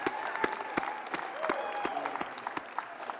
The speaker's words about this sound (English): Let's just give Pastor a hand clap for that right now.